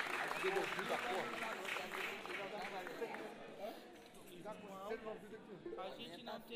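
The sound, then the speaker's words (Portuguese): A crowd applauds with steady, dense clapping that holds throughout, while several voices talk and call out over it, the clapping thinning slightly toward the end. “É, quer passar de palmas, a gente vai aplaudir.”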